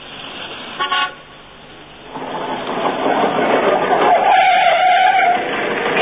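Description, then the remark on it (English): A short, bright horn toot sounds, followed by a scooter engine rising into a steady, buzzing drone as it pulls up and idles loudly in Clacton, with a whiny tonal edge near the end. “Voulez-vous like to hop on the back of this scooter and live it up a bit?”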